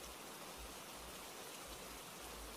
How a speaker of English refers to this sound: It still sounds so bad out there. I didn't know we were supposed to get rain